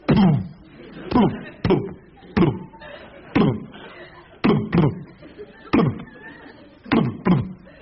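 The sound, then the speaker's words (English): A voice imitates junk mail being shoved through a letterbox: about a dozen rhythmic, forceful flapping thumps, each followed by a brief rustling scrape, repeated steadily with short pauses. “Have you been upstairs and listened to the junk mail come through the door?”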